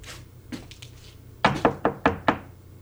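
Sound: knocking on a door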